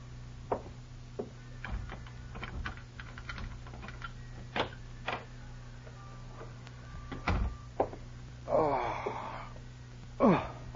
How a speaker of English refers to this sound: As I fought my way up the creaky stairs to my room